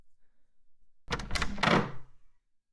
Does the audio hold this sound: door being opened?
yes